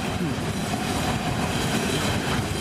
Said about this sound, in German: Moment, Zug.